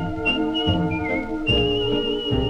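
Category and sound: human body sound, person whistling a tune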